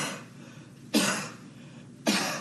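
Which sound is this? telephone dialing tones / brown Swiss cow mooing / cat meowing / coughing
coughing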